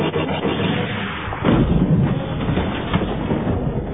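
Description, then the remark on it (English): A single punchy laser cannon blast from an Imperial stormtrooper's speeder bike bursts out about a third of the way in, over a continuous loud, rough rumble of vehicle engine noise that carries on throughout. “The lead imp bike fired a shot from its laser cannon.”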